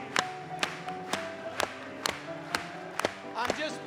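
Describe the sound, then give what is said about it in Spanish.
An audience claps together in a steady, even rhythm, about two sharp claps per second, over sustained tones of music or singing running underneath. “Vamos a aplaudirle. Una vez más, vamos.”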